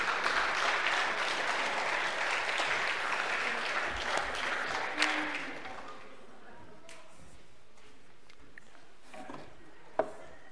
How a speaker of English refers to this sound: Let's give them a round of applause, will you?